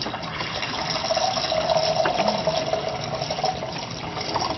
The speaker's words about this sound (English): All right, this is water. And we're going to pour some right in there. What is this one? This is hot plain water.